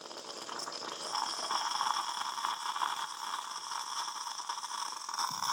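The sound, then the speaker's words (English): A drinks machine hisses and whirs steadily as it finishes a frothy dispense, a continuous buzzing, slightly bubbling noise with a faint high whine running throughout, and no voices. “And it will make another noise now, just to finish off. It comes out all kind of frothy and...”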